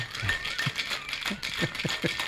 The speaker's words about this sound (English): Okay, some more ice is going into the shaker. Now, I'm going to shake it.